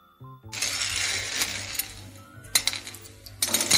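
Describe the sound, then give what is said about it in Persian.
Dried chickpeas that someone is playing with rattle and clink against a dish in a steady shuffle, with a few sharper bursts of clinking toward the end. “اون چیه داری باهاش بازی میکنی؟ نخود؟ نخود؟ آره نخود.”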